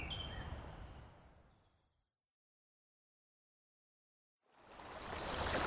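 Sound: flowing river water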